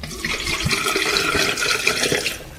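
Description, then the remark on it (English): Water is emptied out of a bottle that is played by blowing across its top to make notes; it glugs and splashes steadily for a couple of seconds, a continuous pouring sound with bubbly gurgles and no voices. “Now I'm going to empty some water out.”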